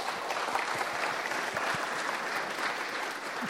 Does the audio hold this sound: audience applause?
yes